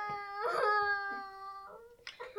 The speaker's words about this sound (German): Wer weint denn hier so schrecklich?